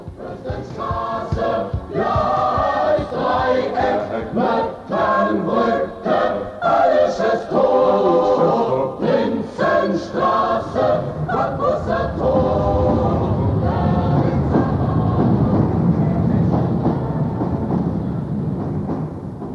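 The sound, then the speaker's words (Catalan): A Berlin metro line 1 train pulls into a station, its loud rumble swelling over the final seconds, with whining, tonal motor or brake sounds riding on top throughout. “Ja ha arribat a l'estació, no? Ja està.”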